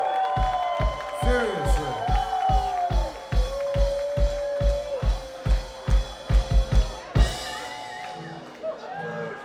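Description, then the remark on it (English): A large concert crowd in Pensacola, Florida, cheers and whoops loudly for the band's crew, with shouted voices and whistles over steady rhythmic clapping or stomping that pulses through the noise for several seconds. “The … crew, cheer them now!”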